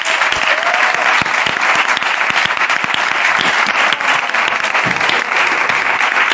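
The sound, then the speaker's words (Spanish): Loud, sustained applause from a large audience for a detection dog named Orca, dense clapping filling the whole stretch without pause, with no voices standing out above it. “Un aplauso para Orca”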